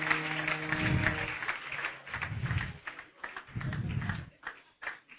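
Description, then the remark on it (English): A crowd claps and cheers in a steady, dense wash of applause for a drummer, with deep booming thuds every second or so and a held musical tone at the start. “Round of applause for that drummer out there.”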